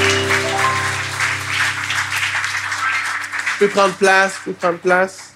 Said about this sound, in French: Est-ce qu'on peut applaudir le Seigneur pour nos trois baptisés? On va les accueillir dans un instant.